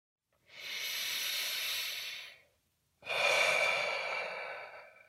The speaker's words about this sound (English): While you're waiting in line right now, try taking a couple of deep breaths, inhaling through your nose and exhaling through your mouth.